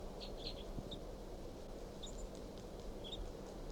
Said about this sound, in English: Start recording 8:03, and this wild bird, male, is low in this pine, looking down at the decoys. And this is him chirping very softly.